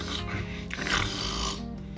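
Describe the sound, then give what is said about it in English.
A heavy, rasping snore drones on without pause, deep and rumbling underneath with a harsh, breathy grind on top that swells briefly in the middle. “The snores become unbearable.”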